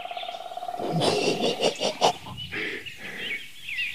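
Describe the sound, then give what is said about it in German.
Thin, high-pitched bird calls repeat a few times in open air, fairly faint against a rustling background broken by a few louder, noisy bursts. “Da, der Ruf zieht, zieht, zieht.”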